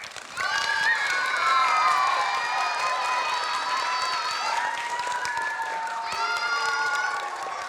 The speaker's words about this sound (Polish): więc teraz możecie bardzo głośno bić brawo i też krzyczeć.